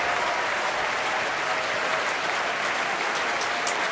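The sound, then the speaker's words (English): A large concert audience applauds a clarinet soloist steadily, a dense, sustained wash of clapping that fills the whole clip at an even, moderately loud level, with no voices. “I think the audience rather liked him. Can you tell?”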